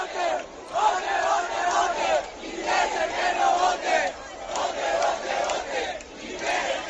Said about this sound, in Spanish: Y te decía al principio que el de hoy está siendo un día de resaca de esa celebración por la victoria de España, que se vivía así en puntos como la Plaza de España, en el Icónica, o en la Puerta Jerez al acabar el partido.